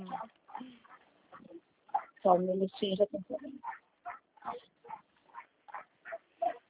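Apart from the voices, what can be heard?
dog barking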